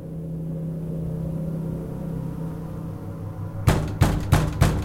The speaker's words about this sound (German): Durch Hämmern an ihrer Wohnungstür wurde sie aus dem Halbschlaf gerissen.